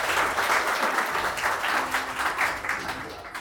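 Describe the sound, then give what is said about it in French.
At a school evening celebrating departing final-year students, the audience applauds itself, many hands clapping in a dense, steady wash that holds at an even level for several seconds before easing slightly toward the end. “Et là, je crois qu'on peut s'applaudir encore.”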